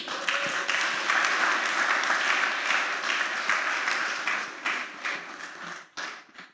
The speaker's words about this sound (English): Please, can you stand up? I want you to clap for them.